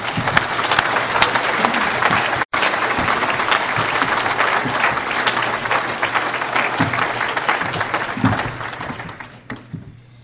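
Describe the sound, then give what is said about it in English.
Steady, dense applause from an audience at a Fellowship by the Sea Alcoholics Anonymous meeting, welcoming a speaker from Ruston, Louisiana, a continuous crackle of many hands clapping that holds at a strong level for several seconds before tapering off toward the end. “So let's give a big Fellowship by the Sea hand to Jack from Ruston, Louisiana.”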